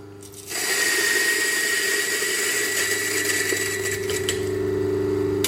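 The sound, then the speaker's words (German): A coffee grinder with disc burrs starts up after a brief moment and grinds steadily to the end, a loud, even motor whir with a high whine over a gritty, rattling crunch of beans. “Und es ist natürlich eine Mühle mit Scheibenmahlwerk.”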